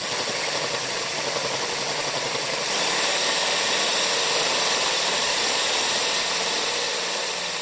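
A power drill grinds steadily into stone, a dense, whirring mechanical buzz with a rattling texture that holds constant and grows slightly louder partway through. No voices.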